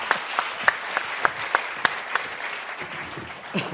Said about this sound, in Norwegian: Får de ikke en applaus?